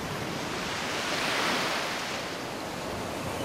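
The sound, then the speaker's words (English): White-capped ocean waves wash onto a beach of golden-pink coral sand in a steady, rhythmic, hissing rush that swells gently midway and then settles back. It is soft and continuous, with no voices. “Hear the waves washing on the shore, the white-capped waves rolling into the shore, rhythmically and soothing.”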